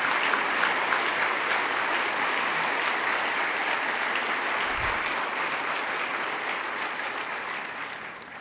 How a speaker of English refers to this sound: So let's have one more round of applause for all of our award winners.